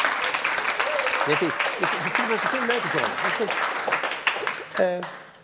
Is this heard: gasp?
no